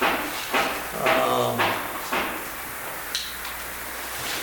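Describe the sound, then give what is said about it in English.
Someone hammering across the street, a series of irregular, echoing thuds spaced roughly half a second to a second apart, muffled and moderately loud against a steady background hum. “For those of you on the tape, that's not me, that's somebody hammering across the street.”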